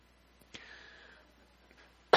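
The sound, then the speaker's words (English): A person coughs with a sharp, breathy burst close to the microphone that trails off into a short hiss, followed by quiet and then another loud, abrupt cough right at the end. No one speaks. “It doesn't help if I cover my mouth when I cough and I got the mic right next to me.”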